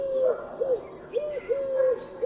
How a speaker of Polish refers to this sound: Głos sierpówki, pospolitego gołębia zamieszkującego nasze miasta i wsie, to głuche pochukiwanie, przypominające nieco głos kukułki.